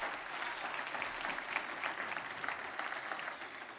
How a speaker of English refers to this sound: Come on, give him a good clap offering.